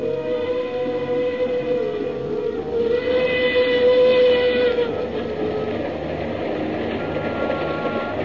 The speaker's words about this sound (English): The mournful whistle of the Cape to Cairo Railroad engine sounded in the night.